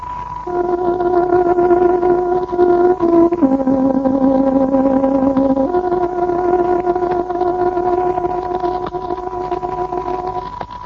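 A tárogató plays the 8 o'clock interval-signal melody of the Voice of Free Hungary radio, broadcast on 417-metre medium wave and shortwave: slow, long, sustained reedy notes, dipping lower partway through and then returning to the first pitch, over a steady bed of hiss and noise.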